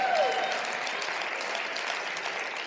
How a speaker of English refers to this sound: Thank you for all seven of you that clapped. No, that's wonderful.